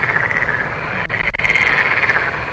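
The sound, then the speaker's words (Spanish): A dense, continuous chorus of frogs in northern Africa, many overlapping trilling calls forming a loud, steady wall of sound, with a couple of brief dips midway and no voices. “Es la filarmónica de ranas, ¿eh? En África.”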